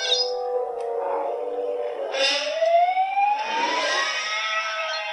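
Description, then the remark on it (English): A siren-like wail blends with a man's scream, steady pitched tones sweeping upward over about five seconds, loud and continuous with no talking. It is the original theatrical-version starting sound of a creature called the crate dragon. “It's like a siren and a man screaming.”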